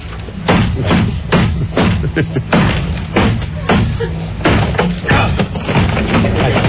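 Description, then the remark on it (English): A hammer repeatedly smashes a Japanese-made camera resting on wood, cracking its lens: about a dozen loud, sharp thuds and cracks at an uneven, rapid pace, with a low murmur of voices between the blows. “The hammer got stuck inside there. I think I heard the lens crack.”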